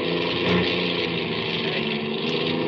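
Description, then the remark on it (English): A car engine runs with a loud, rough droning rumble that holds steady throughout, with no voices over it, as the car's engine is going dead. “I can't get me the engine's going dead.”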